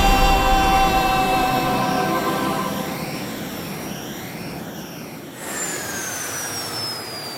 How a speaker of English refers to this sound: It's Gareth and his jetpack!